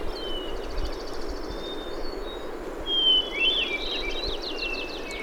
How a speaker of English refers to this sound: Hearing the ethereal, flute-like song of the hermit thrush always makes me feel as if all is well with the world.